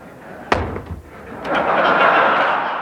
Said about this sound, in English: Reagan at least made a show of dropping it so he could pick up the thud, and then he shook his wrist a little like he had carpal tunnel syndrome.